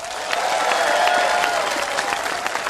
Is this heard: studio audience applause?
yes